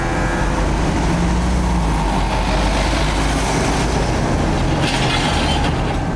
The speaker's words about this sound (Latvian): Ik minūti pa galveno ielu cauri pilsētai pārvietojas traktori un smagās automašīnas ar grūžu kaudzēm.